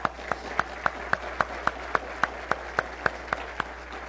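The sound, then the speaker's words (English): Audience applause for high school graduates, with a steady, evenly spaced beat of about fifteen sharp claps standing out over a continuous wash of scattered clapping, at moderate volume and with no talking. “All right, let's give these graduates a round of applause.”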